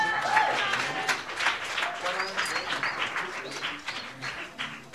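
A TV studio audience applauds a band being introduced for a sofa interview, a dense, steady wash of many hands clapping with scattered cheers and voices mixed in, fading slightly toward the end.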